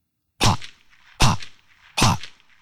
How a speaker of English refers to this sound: That's when the gunshots ran out.